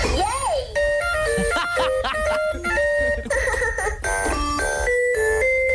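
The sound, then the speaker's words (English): An electronic kid's toy opens with a quick swooping wobble, then plays a bright, beeping synthesized tune of short stepped notes. It stays loud and steady, with no one talking. “A whining dog is never fun, and the most unsexy thing of all, the sound of a kid's toy.”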